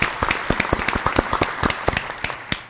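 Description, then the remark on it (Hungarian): Quick, steady hand claps for healthcare workers, roughly a dozen or more sharp slaps in a lively rhythm, fairly loud with no one speaking. “Nyilván nem az egészségügyi dolgozókra gondolok, akiknek hatalmas respekt, és tapsoljatok este 8-kor az erkélyen. De hogy... Én akár most is.”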